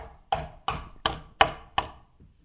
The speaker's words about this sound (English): Perhaps they were in a house together, in a house gathering. And then there is this knock on the door.